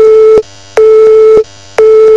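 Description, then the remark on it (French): A telephone busy signal: three loud, steady mid-pitched beeps pulsing in an even on-off rhythm, each tone lasting a little over half a second with short silences between, and no voices. “Tiens, c'est drôle, c'est exactement le bruit que vous feriez si vous aviez raccroché.”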